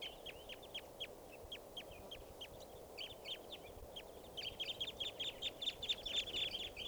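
A flock of birds whose calls all sound like type 2 gives short, sharp, high chip calls, repeated and overlapping, growing denser and louder toward the end over a steady low background rumble.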